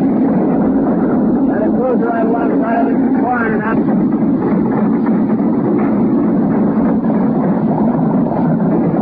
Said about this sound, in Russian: Наконец, зенитный огонь достиг цели. На записи слышны радостные возгласы моряков.